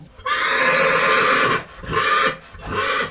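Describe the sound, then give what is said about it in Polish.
A horse set for a competition neighs loudly: one long, shrill whinny followed by two shorter, throaty calls, with no talking over it. “Bojowo nastawiony koń do zawodów.”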